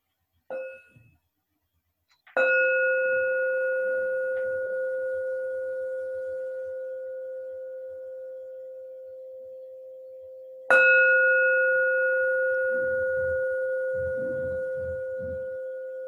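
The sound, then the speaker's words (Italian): A meditation bell struck three times to mark the end of a meditation: a soft, short first tap, then two full resonant strikes about eight seconds apart, each ringing out with a long, slowly fading hum. “Cari amici, ora tre suoni di campana segneranno la fine della nostra meditazione.”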